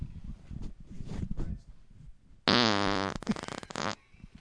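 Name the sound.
fart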